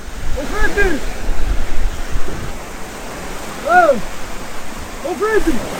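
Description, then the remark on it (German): Lake waves rush steadily against the shore on the Albanian side at 7 in the morning, with sun lighting the snow-covered mountains, in a continuous, washing hiss, with three brief, tonal, bird-like calls rising above the water noise at intervals. “Die Sonne taucht die schneebedeckten Berge rund um den malerischen See in ein helles Licht, die Wellen rauschen.”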